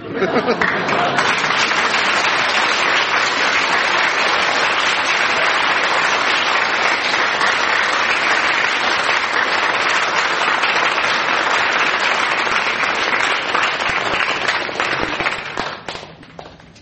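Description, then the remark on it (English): Sustained, loud applause from a large studio audience voting for the winner of a contest of stories, a dense crackle of many hands clapping steadily for about fifteen seconds before tapering off at the end. “by a very, very narrow margin, from your applause, Frank Muir wins the contest of stories”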